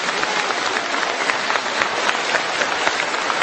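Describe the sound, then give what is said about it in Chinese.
An audience claps steadily for several seconds to thank the believers seated at the sides, a dense, even wash of many hands with no pauses and no voices rising above it. “那对他们这么一起来听台长的法门，我觉得我们坐在当中人鼓鼓掌，要谢谢他们，他们让给你们问题。”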